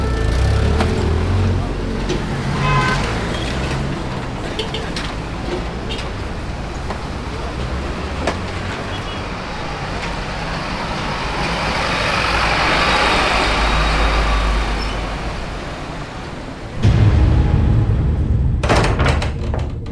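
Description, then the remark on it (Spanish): A car drives along with a steady engine rumble and road noise throughout, then a heavy thud and louder burst of engine noise near the end. “Pues ya subas el carro.”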